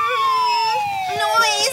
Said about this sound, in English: Noise. The sirens are bothering you? Noise.